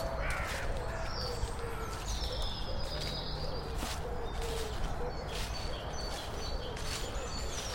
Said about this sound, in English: Lots of crows around.